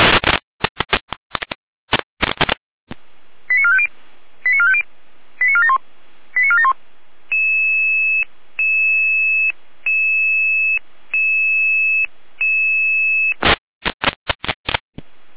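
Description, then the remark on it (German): Emergency dispatch radio alerting tones from the Jena dispatch centre, alerting Red Cross units to a trauma call, over a narrow radio channel: short data bursts, a quick series of rising tone sequences, then several long steady paired tones, closing with more crackly bursts. “Patch Jena mit Alarmierung.”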